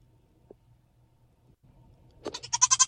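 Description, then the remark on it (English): A goat lets out a loud, wavering bleat that starts abruptly near the end and pulses in rapid tremolo, preceded by quiet low background hum and a faint click. “Goats are just hilarious in general.”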